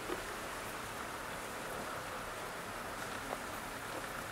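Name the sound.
heavy pouring rain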